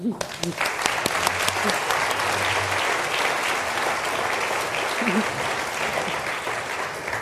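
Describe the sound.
A room full of people claps steadily, a dense, sustained wash of applause that stays loud for several seconds, with a few low voices murmuring underneath.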